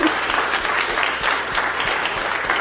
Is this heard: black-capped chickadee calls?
no